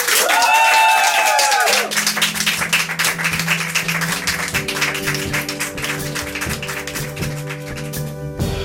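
An audience applauds with dense, steady clapping throughout, opening with a few rising whistles or cheers. A sustained musical tone enters beneath the applause and builds as the clapping carries on.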